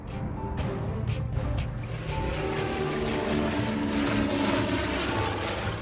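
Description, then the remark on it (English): Allied World War II propeller fighter planes roar steadily overhead, a dense, continuous engine drone with low rumbling harmonics that holds loud and unbroken throughout, no voices present. “Just 12 days later, on December 20th, three squadrons of Allied fighter airplanes saw their first combat in the CBI, the China, Burma, India Theater.”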